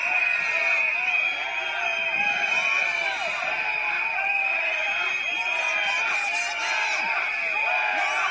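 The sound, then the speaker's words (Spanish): A dense crowd of protesting farmers gathered at the fairground in Zafra, Extremadura, shouts and yells together shortly before noon, ahead of the inauguration of the FIC 2024 fair and minister Luis Planas's arrival. A loud, continuous roar of overlapping voices with occasional higher cries rising above it, holding steady throughout. “Se ha inaugurado la Feria de Zafra, la FIC 2024, y antes de la inauguración se han escuchado estos gritos.”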